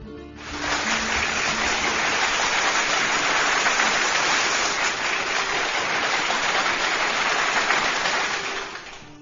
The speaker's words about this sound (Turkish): Kocaman bir alkış gelsin mi?